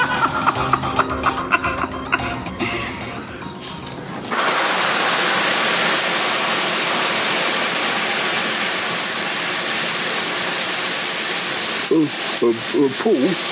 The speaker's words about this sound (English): I'm trying to have a shower.